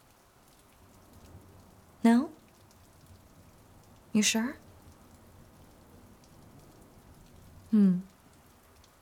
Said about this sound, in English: Well, the rain won't affect us. I can just put up a barrier.